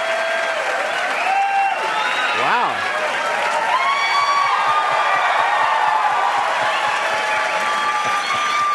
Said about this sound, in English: Please stop clapping. You're going to embarrass me.